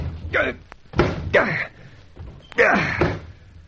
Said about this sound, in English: The dashed door's as solid as a rock. So, wasting your time shouldering it. And it's padlocked from the outside.